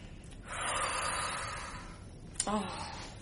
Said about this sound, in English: Breathe. No gap between your in-breath and your out-breath. Continuous breathing.